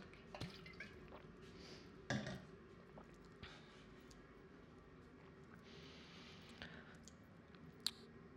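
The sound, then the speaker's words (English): Someone sips and swallows water, with soft wet gulps, occasional sharp mouth clicks and a quiet liquid squish, spread unevenly over several seconds with no talking. “Water. Gosh, I love water.”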